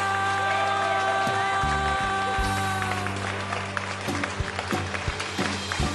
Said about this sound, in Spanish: Eso me hace tan feliz, poder cantar y estar aquí, para que puedan aplaudir.